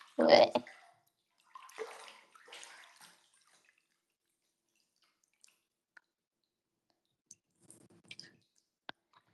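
Water sloshes and swishes in a bathtub in a few short bursts as a hand stirs hot bathwater to mix it, followed by quiet stretches broken by scattered drips and faint clicks.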